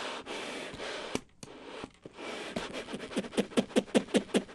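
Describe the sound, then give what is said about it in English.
Accordion bellows squeeze and flop together with airy, breathy whooshes, then a quickening series of soft rhythmic puffs and pulses, each with a low flapping thump, without any talking. “Then you just heard the bellows kind of squeezing, flopping together.”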